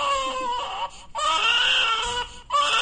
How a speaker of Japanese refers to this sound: あー、まさか赤ちゃんの泣き声で来るとは。 ありがとうございます。これちなみにこの声は、 あ、まあ、マイベビーですね。